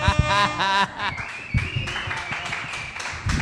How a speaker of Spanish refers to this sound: Gente, fuerte aplauso para. Muchas gracias, gente.